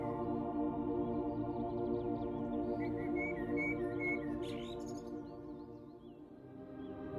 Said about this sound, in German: Bunte Vögel schweben elegant vorbei und singen ihre Lieder.